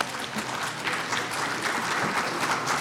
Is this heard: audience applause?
yes